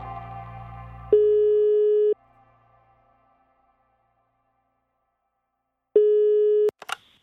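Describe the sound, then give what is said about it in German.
Two long, steady electronic telephone tones, each about a second long, separated by a few seconds of quiet, with a faint low hum at the start and a brief click at the end. “Selma ist am Telefon und sie will wissen, wie es mit den Lämmern gelaufen ist.”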